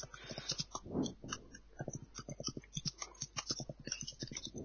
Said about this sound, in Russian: Что там за звук творится? Это я печатаю.